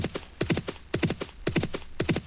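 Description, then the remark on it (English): Rapid horse hooves clip-clop in a steady galloping rhythm in a horse racing video game, four quick beats repeating about twice a second, clear with no talking over them. “Also, you can hear some horse sounds.”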